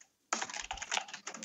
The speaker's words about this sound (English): I'm just recording your furious typing.